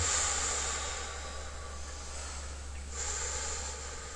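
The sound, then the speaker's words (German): A slow, deep breath drawn in and let out, one of three breaths taken to bring awareness back into the body, heard as a soft, airy rush over a low steady hum, quiet, with no talking. “Und jetzt schau deinem Körper in die Augen und atme dein Bewusstsein wieder zurück mit drei Atemzügen.”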